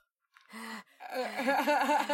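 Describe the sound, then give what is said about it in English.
A person imitates the heavy, out-of-breath panting of the Muppets character Animal: a quick breathy gasp, then a longer run of raspy, voiced huffing breaths, fairly loud and with no other sounds around it. “I also love that Animal is always out of breath, no matter what is happening.”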